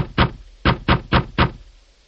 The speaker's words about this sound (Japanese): ドアを叩くが何の反応もない。その後も何回かドアをノックするが反応は同じだった。